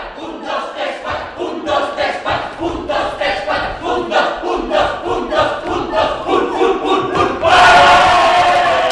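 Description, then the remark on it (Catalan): A group of theatre performers shouts together in a fast, rhythmic chant of repeated syllables, building steadily before ending in one loud, sustained collective yell, the cry given just before they all head to the stage as the play is about to begin. “Amb aquest crit s'acaba i ara sí, ara se'n van ja tots cap a l'escenari.”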